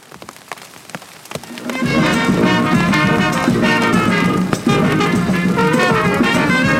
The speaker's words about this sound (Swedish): Allt detta firades den 11 juni med musik och mingel på den vältrafikerade gatan. Och just den här dagen hade ett kraftigt regnväder bestämt sig för att delta.